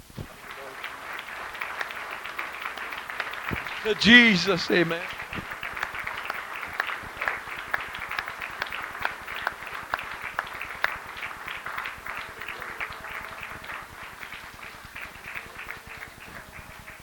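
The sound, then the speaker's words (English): An audience claps their hands in a dense, steady burst that carries on throughout, with a voice briefly calling out over the clapping near the start. “I wonder if anybody wants to clap their hands.”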